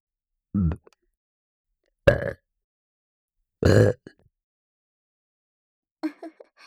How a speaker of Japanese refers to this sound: 次は連続ゲップいきます。3回連続で出します。せーの。